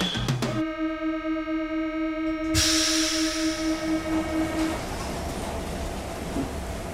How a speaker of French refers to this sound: Eh bien, nous voilà dans le métro, encore une fois. Ouais. On l'aime, ce métro, même un peu vite, comme en ce moment.